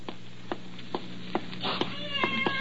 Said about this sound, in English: Help me get this cat out of the building.